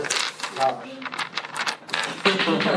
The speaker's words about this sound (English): roll a d20.